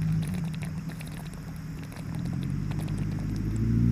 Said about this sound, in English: There's a car passing by.